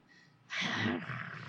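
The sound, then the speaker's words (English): A person imitates a growl with their voice, a single rough, raspy rumble that swells suddenly to full loudness and then holds, trailing off slightly, with no words spoken. “She kind of like growls, growls, growls, and like she growls.”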